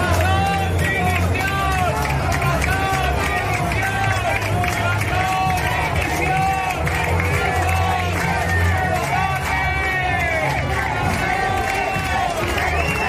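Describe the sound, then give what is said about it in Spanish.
A large crowd in the Plaza de Luceros, Alicante, during the Hogueras festival shouts and chants at president Carlos Mazón, "Mazón, dimisión" alternating with "asesino", "mentiroso" and "presidente"; many voices overlap in a loud, dense roar with rising and falling yells, steady throughout with no pauses. “Lo oyen gritos de Mazón, dimisión, alternados con los de asesino, mentiroso y otros de presidente.”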